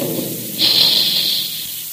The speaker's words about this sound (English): Remember the sound of those big Quaker guns the next time you sit down to a tempting dish of crisp, crunchy puffed wheat or puffed rice for breakfast.